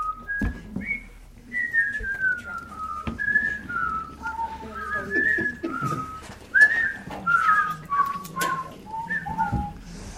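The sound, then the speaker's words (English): Someone whistles the Jeopardy theme song during a meeting, a clear, steady melody of held and sliding notes that carries on for about ten seconds, with faint background clatter. “Are you doing the Jeopardy theme song?”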